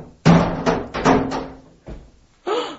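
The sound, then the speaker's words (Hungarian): Heavy thuds and bangs against a door, several blows in an irregular burst as if someone is trying to force or break it open. No voices. “A cellából jött a kiáltás, ne törj az ajtót!”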